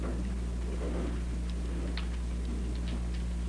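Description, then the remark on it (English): A clock ticks steadily and quietly, with regular soft clicks about every half second over a low steady hum, no voices present. “And we have an assortment of clocks around the house. And some wind up backwards, you know, and some have pendulums.”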